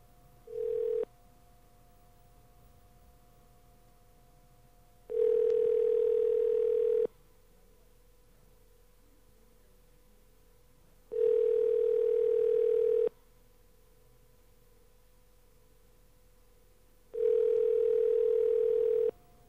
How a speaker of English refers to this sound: You got a dial tone there?